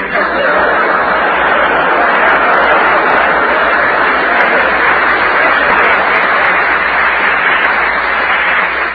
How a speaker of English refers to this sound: There's two ways to take that applause.